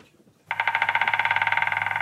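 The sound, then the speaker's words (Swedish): A white-backed woodpecker gives a fast, even trill of sharp, high, ringing pulses that starts abruptly after a brief quiet moment and continues steadily and loudly, with no voices. “Ja, det där peppriga ljudet, det var den vitryggiga hackspetten.”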